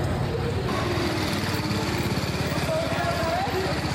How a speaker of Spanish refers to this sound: Después de toda la teoría, tocó el momento de subirnos a las motos. Estuvimos manejando la 310, que es esta que están viendo, y la C02, que es esta que están viendo a continuación.